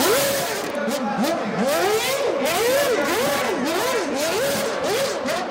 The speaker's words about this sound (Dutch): Er was een launch event door Red Bull Racing en Mercedes Formule 1 team. Max Verstappen was er niet bij, maar Perez wel. En die ging even met zijn V8, vroeger hadden ze V8's nog, ging even de strip op met de auto.